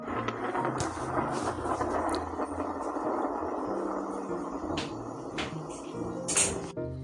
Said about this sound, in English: Today, scientists know that the sound of thunder is made when lightning heats up the air.